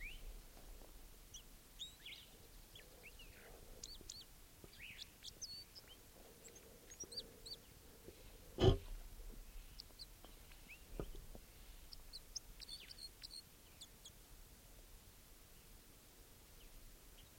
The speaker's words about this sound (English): There's a male. Of course, I think a male. Still sitting here. By himself. Recording that bird now.